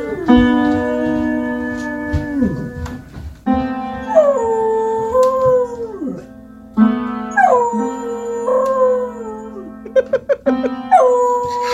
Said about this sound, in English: I love howling dogs, but when a dog actually jumps up and uses his paw to play the piano and howl at the same time.